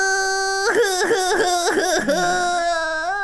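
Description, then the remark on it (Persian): A voice pretends to cry as a personified old, dirty white shoe, letting out a drawn-out wailing sob with wavering, pulsing pitch, followed by a long sustained whimpering moan. It sounds clear, with no other talk. “گریه نکن، گریه نکن کفش جان عزیزم، گریه نکن.”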